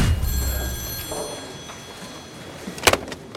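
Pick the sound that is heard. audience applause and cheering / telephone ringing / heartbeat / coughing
telephone ringing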